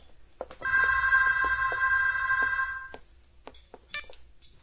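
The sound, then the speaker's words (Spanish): A telephone rings with a steady electronic tone for about two seconds, loud, followed by a few clicks and a brief higher beep near the end. “Coge el teléfono.”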